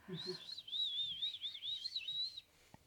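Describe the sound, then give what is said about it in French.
A voice imitates a woodland bird as a sound of the woods, whistling a warbling, wavering chirp for about two seconds, fairly clear, followed by a brief soft tap. “Est-ce que tu peux faire les sons du bois?”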